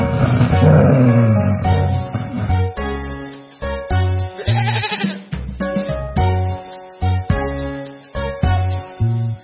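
A goat bleats over and over, loud, in a quick string of wavering calls separated by brief pauses, with no one talking.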